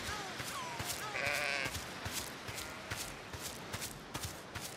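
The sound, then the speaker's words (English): Sheep bleat in a strained, complaining tone while being herded, a few wavering calls clustered near the start, over a steady patter of footsteps and rustling. No one speaks. “It made some unhappy sheep sound.”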